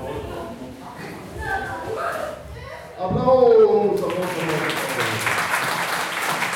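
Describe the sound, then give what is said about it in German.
Audience applause at a prize ceremony for the film crew of the winning film FTF Hunter, awarded a special Oscar, swells up over a murmur of voices and a loud cheer, becoming a steady, dense clatter of many hands clapping that keeps going to the end. “Applaus!”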